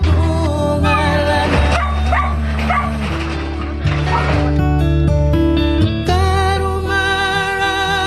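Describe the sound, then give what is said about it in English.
A dog poisoned with 1080 howls and whines in distress, long wavering cries rising and falling in pitch with brief breaks, loud, continuing for several seconds with no talking. “They get doing fits and starts and froth in the mouth and howl and carry on.”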